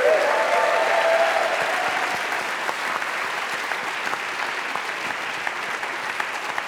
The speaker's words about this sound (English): A round of applause for our production team, please, over here. Also for our sound team, the light team, everyone at Union Chapel.